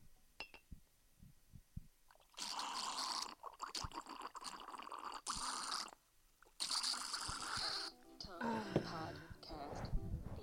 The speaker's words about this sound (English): I'm about to pour myself a little glass of wine. Let's see if I can get this situated. Hold on. Here we go.